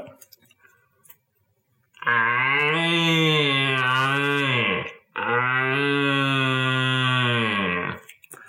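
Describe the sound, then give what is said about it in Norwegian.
Two long, loud bellowing roars, each about three seconds, blown through a ribbed plastic tube about the same dimension as a red deer stag's throat to imitate a stag. They are deep and droning, with a short gap between them. “Men det här är ju då ett hjortebröl, men det är inte det med sagt att det är den lyden jag lagar när jag ska locka på en hjortebok.”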